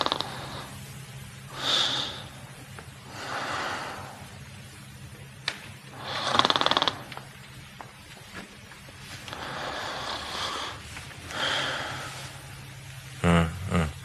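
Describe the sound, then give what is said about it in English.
Watson, in a Sherlock Holmes scene, snores loudly in his sleep, with long rasping breaths and snorts repeating every few seconds over a low, steady hum, ending in a sharp sputtering snort. “And it starts off kind of funny with this Watson's boat here with him sleeping and snoring, but this is it.”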